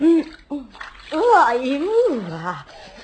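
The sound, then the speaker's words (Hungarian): Steady hiss of cold running tap water as someone washes under it, continuing beneath an expressive voice that rises and falls. “De hideg ez a víz.”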